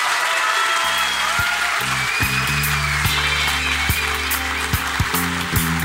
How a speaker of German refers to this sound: Und ich würde sagen, wir begrüßen die beiden Slammer mit einem donnernden 10-Punkte-Applaus auf dieser Bühne.